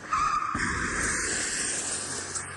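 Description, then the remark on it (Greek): A Porsche brakes hard after its airbag has opened, its tires screeching in one long, loud skid that holds steady for a couple of seconds before it crashes, with no voices over it. “Πετάει και δύο μαντιλίκια, τρεις κολλιές και ένα φρενάρισμα και πάει και καρφώνεται δικαί μου πάνω σε μία ταλίκα.”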